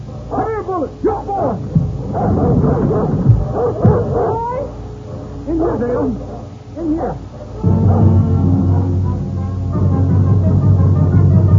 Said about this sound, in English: Listen. It's only a dog.